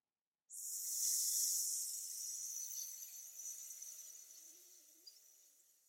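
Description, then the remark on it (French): A long, steady hiss of breath pushed out through clenched teeth during a breathing exercise, the tongue held behind the teeth like a snake's hiss, starting abruptly and slowly fading over several seconds, fairly loud, with no talking. “Je vous rappelle, vous laissez la langue derrière les dents et vous laissez l'air s'échapper entre les dents, comme le sifflement d'un serpent.”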